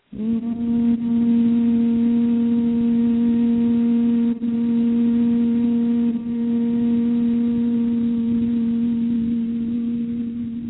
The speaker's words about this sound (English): keep the mouth closed and just make a humming sound. You can either do a high hum or a low hum. Just pretend you're maybe like a bee. And just breathe out on a humming sound.